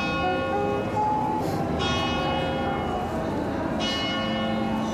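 Church bells peal continuously in the city of Milan, Italy, overlapping rich metallic tones ringing loudly with steady strikes and a constant wash of lingering resonance.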